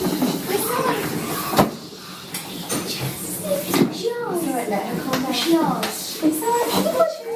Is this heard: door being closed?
yes